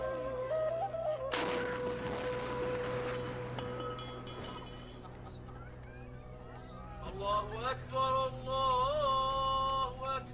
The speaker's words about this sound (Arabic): يلا يا عيال بنسير جدل مدفع وشلوا تمركم ومايكم عسب تفطرون من يذن. ابويا اخاف من صوت المدفع، عادي اسد اذني؟